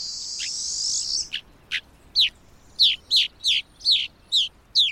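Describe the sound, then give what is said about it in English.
Rosy finch calls: a buzzy, high-pitched chatter opens, then a steady series of about eight short, sharp downslurred chirps, clear against a quiet background. “Their preference for extreme environments make rosy finch populations difficult to study.”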